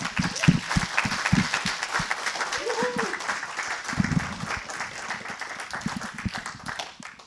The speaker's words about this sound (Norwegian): Så det betyr at hvis jeg klapper i hendene nå og sier «Å, tusen takk Gud for alt du har gjort for meg», så hører han det. Så jeg kan rett og slett klappe for Gud. Skal vi gjøre det? Ja.